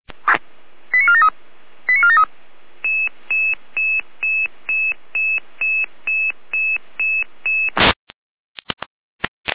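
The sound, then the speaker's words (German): Radio alerting tones from the Saalfeld dispatch centre (Leitstelle Saalfeld) alerting unit 8831 to an internal medical emergency: two short warbling tone bursts, then a steady run of about a dozen evenly spaced high beeps at one pitch, ending in a burst of static and a few clicks. No voices. “Leitstelle Saalfeld mit Alarmierung.”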